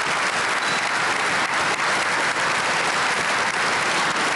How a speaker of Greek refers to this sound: Βαρέστε άλλη μια φορά παλαμάκια στους νεοναζί του τάγματος Αζόφ στη Βουλή και συνεχίζουμε.